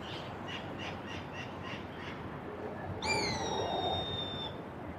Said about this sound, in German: Was der Vogel neben mir singt, singen so viele andere Vögel auf der Welt zur gleichen Zeit.